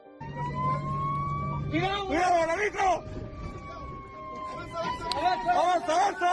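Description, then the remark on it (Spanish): A fire truck siren wails steadily from inside the cab of a fire truck in Chile over a low engine rumble, while several voices shout over it in bursts, as the crew is trapped by a wildfire on a road. “¿Escuchas el interior de un camión de bomberos en Chile? Justo en el momento en el que quedan atrapados por el fuego en una de las carreteras.”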